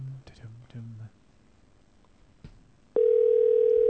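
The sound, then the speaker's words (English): A phone line tone comes in loud and steady for the last second, after a short burst of voice and a single sharp click; the tone holds unbroken rather than pulsing. “Hey, you finally pick up your phone?”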